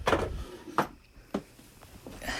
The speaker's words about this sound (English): I'm grabbing something from the drawer.